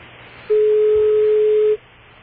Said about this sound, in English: We're dialing direct, sir. I see. We can't dial direct yet, though, can we? No, sir. It's too new, and they don't have, like, all of their numbers together. I'm trying to get the operator.